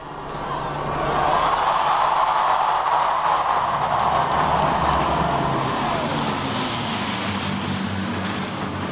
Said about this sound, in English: And they watched as a bomber and two fighter planes from World War II flew overhead.